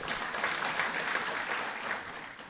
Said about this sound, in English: So many claps. Like, they should just hand out an award to everybody. Yeah, everyone is doing such great work. A lot of clapping and patting each other on the back.